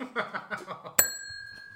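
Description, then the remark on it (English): A small bell is struck once, sharply, its bright tone ringing on and slowly fading. Just before it, a voice murmurs or laughs in short bursts. “No, I'm going to remove this bell shortly.”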